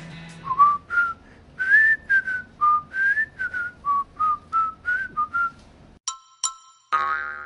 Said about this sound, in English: it'd probably be the Andy Griffith theme song. Just the whistling.